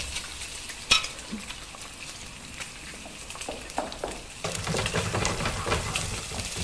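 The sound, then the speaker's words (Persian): Oil sizzles and crackles steadily in a pan as eggs are fried, with sharp clicks and scraping as they are stirred; the frying grows louder and denser partway through. “روغن جا میریزید. بعد هم میزنید.”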